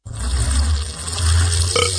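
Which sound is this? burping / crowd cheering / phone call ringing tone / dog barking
burping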